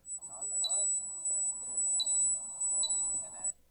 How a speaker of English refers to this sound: Local homeless advocates described the noisemakers as anti-loitering devices, intended to target nearby homeless campers with non-stop high-pitched pinging and ringing noises. It sounded like this.